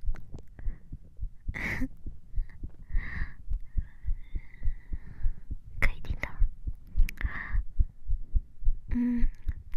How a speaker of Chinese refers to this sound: 姐姐的心跳现在跳得好快呀、姐姐现在有一点点的小紧张呢